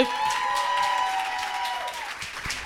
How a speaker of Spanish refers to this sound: Un aplauso, por favor.